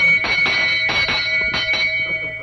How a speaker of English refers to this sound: Would you ring the bell, please?